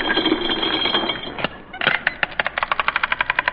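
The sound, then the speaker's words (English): A comic wallet-opening effect: a harsh mechanical grinding rattle, a couple of sharp clacks, then a quick, steady run of ratcheting clicks, like a rusty mechanism being cranked open. “I'll open my wallet.”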